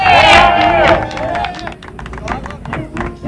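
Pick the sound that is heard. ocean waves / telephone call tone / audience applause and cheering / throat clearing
audience applause and cheering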